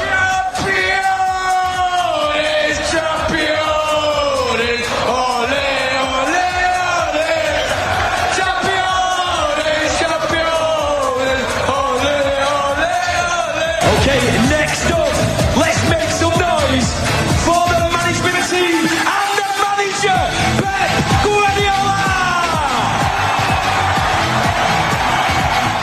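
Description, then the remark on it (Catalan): A large crowd of thousands cheers and chants loudly and continuously in the rain at Manchester City's Champions League victory parade through the streets of Manchester on 12 June 2023, with sustained shouts, yells and whoops rising and falling throughout. “Ha estat una rua passada per aigua, amb milers de persones pels carrers, xops de dalt a baix”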